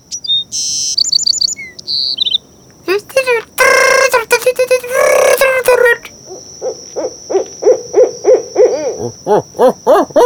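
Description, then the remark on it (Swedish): A human voice mimics a series of bird calls, with hooting, trilling whistles and a rapid run of chirpy notes, fairly loud, with a steady high tone running underneath. “alla kan härma fåglar.”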